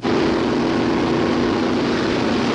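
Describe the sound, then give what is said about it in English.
A large Federal Express cargo airplane, loaded with more than 80,000 pounds of packages and boxes, has engines that drone loudly and steadily. It is a dense, unbroken roar with a low humming tone running through it and no voices. “But by now, there are more than 80,000 pounds of packages and boxes loaded in this huge plane.”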